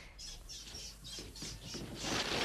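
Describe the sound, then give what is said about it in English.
Chickens in a hen house flap and squawk in agitation, a rapid series of rustling, clucking bursts that swell louder and busier toward the end, with no voices present. “What was that? Something in the hen house.”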